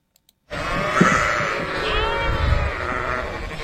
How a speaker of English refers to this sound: Yes, that is a flock of sheep. They're grazing on fields of grass.